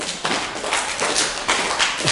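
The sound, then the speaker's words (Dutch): In a church, a crowd stamps feet, claps hard and shouts all at once when the name Haman is called, a dense, rumbling clatter of thuds and slaps with a few louder surges, lasting a couple of seconds. “Dat als ik nou één keer de naam Haman roep, dat jullie heel hard gaan stampen, klappen en gillen.”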